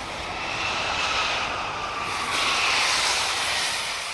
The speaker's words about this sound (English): This was the first plane in a week to attempt a landing.